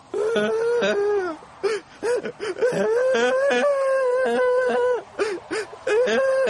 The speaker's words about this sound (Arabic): من الذي يبكي؟ إنه الولد الجالس على الرصيف هناك. دعونا نذهب لنعلم سبب بكائه.